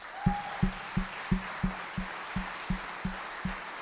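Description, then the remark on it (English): An audience at Maywood Baptist church applauds its long-term members in a steady rhythm, with about eleven evenly spaced beats over a continuous wash of clapping. There is no talking. “I want to say, you all can join me in applauding long-term members of Maywood.”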